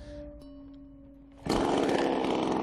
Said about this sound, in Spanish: Vamos a ver una imagen. Miren la siguiente motosierra.